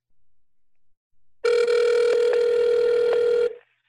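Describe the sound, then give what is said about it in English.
A phone call to the business Day Spa and Nail in Albuquerque ringing over speakerphone: one steady, buzzy ringback tone lasting about two seconds, loud and unbroken, after a faint murmur of background noise. “And it'll take my phone just a minute to, there we go. Remember to hit speaker.”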